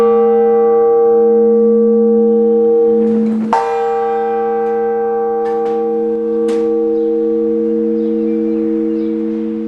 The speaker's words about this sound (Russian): По благословению митрополита Екатеринодарского и Кубанского Исидора, в период карантина по поводу коронавирусной инфекции в кафедральном Свято-Екатерининском соборе Краснодара ровно в полдень звучит благовест.